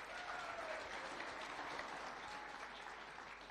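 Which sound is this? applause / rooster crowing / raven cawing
applause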